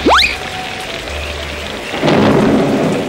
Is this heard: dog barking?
no